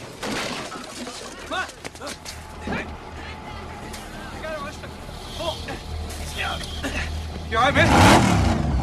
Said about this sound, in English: The vamp car speeds out of control, hits the central reservation, spins onto its back, and slides along the freeway before coming to an abrupt rest and crumpling against a concrete pillar.